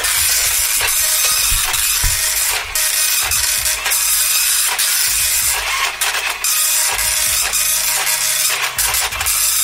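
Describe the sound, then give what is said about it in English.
A slow printer at Talk Radio works steadily through a page, a dense mechanical hiss broken by repeated clicks and ratcheting clunks at an uneven pace, fairly loud with no voices. “Quite a slow printer”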